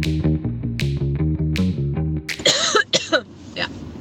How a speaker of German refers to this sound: Ich habe einen kleinen Hustenanfall gehabt. Das hat nichts zu bedeuten. Ich habe auch ein bisschen Kratzen im Hals nach wie vor.